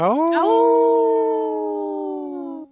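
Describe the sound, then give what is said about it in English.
People howl like wolves, their voices sweeping upward and then holding one long, steady wail for over two seconds before cutting off. The imitation is loud, with no talking. “I don't think Heather howled with us. Did you howl with us?”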